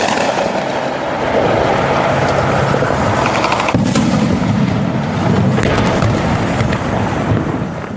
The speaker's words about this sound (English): Here's the sound last week of gunfire in the streets of Yemen outside the presidential palace.